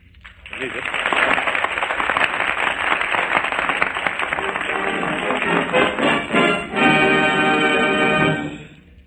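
crowd, studio audience applause

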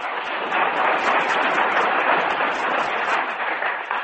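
crowd, studio audience applause

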